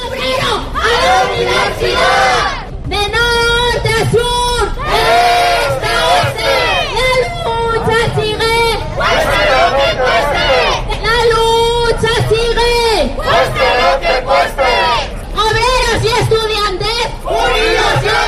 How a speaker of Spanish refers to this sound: Pues estos gritos se oían hoy por las calles de la capital leonesa. Son los estudiantes que hoy están en huelga en contra de la reforma educativa. Estudiantes de enseñanzas medias, de la formación profesional y también de la universidad,